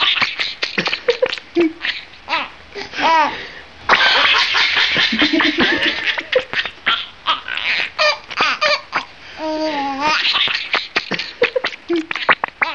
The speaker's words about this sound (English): when you see him tickle a rat and the rat kick its little rat legs and chirp like mad, it does look like the animal is cracking up. Like a little kid.